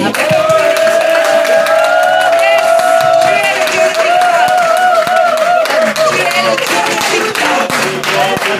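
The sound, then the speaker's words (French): A crowd claps and cheers loudly and steadily for God as the God of victory, with a sustained voice or tone ringing over the noisy applause throughout. “Est-ce qu'on peut l'applaudir?”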